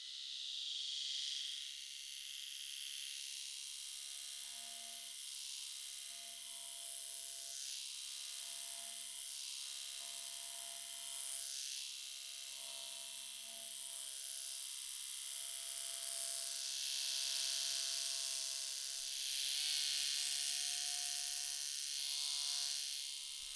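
A small electric shaver buzzes close to the ear, a steady high whine that wavers and scrapes in short strokes, with brief pauses between passes and no talking.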